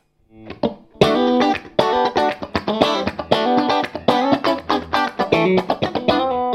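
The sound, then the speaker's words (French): Electric guitar playing a run of bright, chiming chords and notes with a very light vibrato shimmer that gives a chorus-like effect without a chorus, and a wash of reverb, sustained and fairly loud, with no voices. “toujours avec un petit vibrato très léger, mais parce que D'accord. ça permet d'avoir un effet chorus sans chorus en fait”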